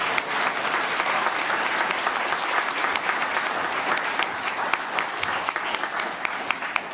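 Loud, sustained applause from a large audience, dense clapping filling the room steadily for several seconds with a few sharper claps standing out near the end.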